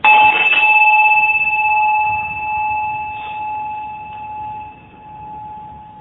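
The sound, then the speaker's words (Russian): A small bell is struck once, giving a clear, bright ring that hangs in the air and slowly fades over several seconds. No one speaks over it. “Вот Тулху Гимбаче очень хороший пример приводил с ударом колокольчика.”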